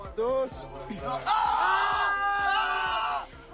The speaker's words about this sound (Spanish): Desde el establecimiento aseguran que no es peligroso, que son vibraciones provocadas por un juguete a pilas. Los gritos de los chavales en los vídeos publicados dan a entender algo diferente.